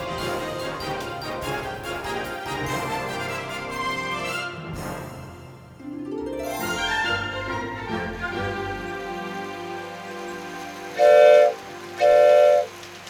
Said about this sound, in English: Mr. Whitaker said it would take both of us to run the train. Stop grabbing my arm! Let me have the control. I gotta slow the train down before it gets to the bend.